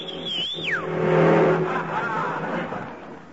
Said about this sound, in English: Did you see that? Wouldn't stop, and he had an empty cab. And he was going about 40.